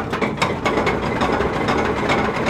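A locomotive engine being hot-started in a Cleveland rail yard: loud, steady mechanical clatter with rapid rattling beats over a dense rumble, continuous throughout with no voices.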